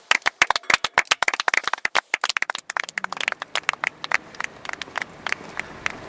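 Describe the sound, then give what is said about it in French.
A small group claps hands together in an anechoic chamber, a dense flurry of sharp, dry claps with no echo, thinning out into a few scattered claps toward the end. “J'aimerais bien essayer les claquements de main. À plusieurs.”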